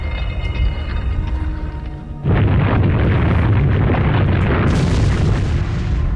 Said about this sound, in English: I didn't like the look of that. Was it an earthquake?